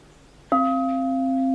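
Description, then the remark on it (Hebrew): A single soft strike on a singing bowl with a thick stick, followed by a clean, sustained ringing tone with several steady harmonics that hums on without fading, fairly loud; the strike is heard less than the tone. “צליל טיפה יותר נקי, שומעים פחות את המכה ויותר את הצליל.”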